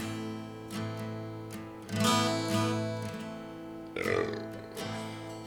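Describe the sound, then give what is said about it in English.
A couple of loud, drawn-out burps, one around the middle and another shortly after, rumbling over a steady droning background hum with no talking. “I'm feeling so down, I'm burping.”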